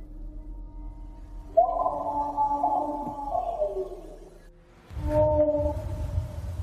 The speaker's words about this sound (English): It's an eerie recording captured on a cell phone of something that's making strange howling noises heard throughout Alert Bay. We heard it once, and I didn't get the recording. And then second time, I got the recording.